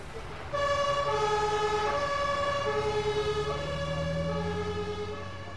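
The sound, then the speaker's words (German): An ambulance siren blares in a steady two-tone wail, alternating high and low pitches, starting after a brief quiet moment, with a low vehicle rumble underneath. “Dann laden wir sie in den Krankenwagen mit den 3 Kindern.”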